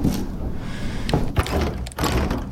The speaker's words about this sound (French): Là, je vois un truc derrière la serrure. J'avance tout doucement. Hein. J'ouvre la porte.